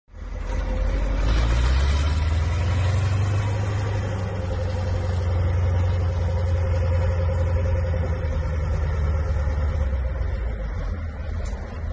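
Deep, steady rumble of heavy tractor and farm vehicle engines in a convoy of French farmers travelling to Paris, loud and droning continuously after an abrupt start, with no voices.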